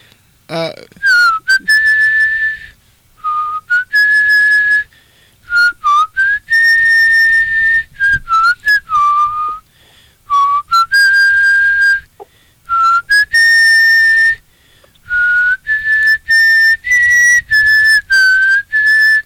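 A person whistles a slow, festive holiday melody alone, with clear sustained notes broken by short pauses for breath, sounding close and fairly loud.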